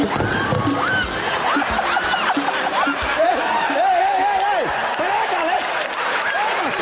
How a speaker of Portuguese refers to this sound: Solte a vinheta que o nosso convidado chegou!